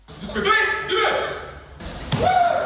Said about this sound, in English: Punches, kicks and shouts at the multi-purpose youth hall in Marwa, now transformed into a vibrant dojo, that is, a karate studio.